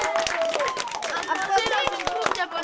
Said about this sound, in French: Ce soir, un numéro exceptionnel avec un nouvel artiste qui nous vient de France. Wow. Celui qui vous fait bonjour de la main, on peut l'applaudir.